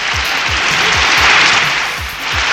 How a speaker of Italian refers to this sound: È partito l'applauso, i ragazzi ci sono sul pezzo. Vorrei sentire un applauso finto.